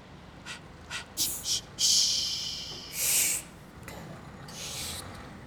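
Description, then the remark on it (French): Faint, low background rumble of engines, with a series of short high-pitched bird whistles and chirps breaking over it, some quick and clipped, others drawn out for about a second. “J'entends des moteurs, des sifflements d'oiseaux, des moteurs, des sifflements d'oiseaux.”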